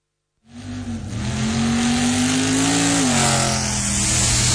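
A car engine revs loudly, starting abruptly and holding a steady growl whose pitch climbs slightly before easing back down, with no voices present.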